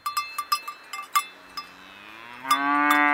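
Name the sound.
cows mooing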